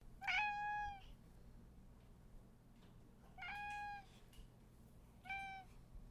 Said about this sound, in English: The cat yowled gently and looked at her expectantly.